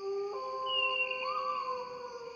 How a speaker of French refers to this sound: Les loups s'arrêtent de hurler.